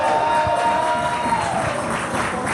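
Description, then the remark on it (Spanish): A crowd applauds and cheers in a dense, steady wash of clapping, with a high whistle-like tone drifting through the first half. The applause stays loud and continuous throughout. “Fuerte aplauso para aquí, güey.”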